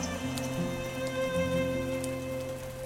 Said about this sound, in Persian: باران ترانه ای بکر و وحشی است، رپ رپه تبل های آفریقایی است، زلزله وار می لرزاند. رگباری از نیزه سرخ پوستان است. عشق در موسیقی باران دگرگون می شود.